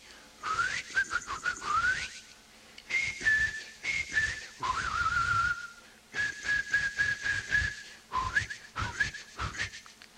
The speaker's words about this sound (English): At that moment, a bird in the garden begins to sing.